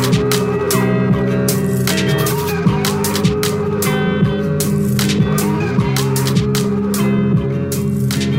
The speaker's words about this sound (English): It's one of the first sort of abstract hip-hop songs that I listened to.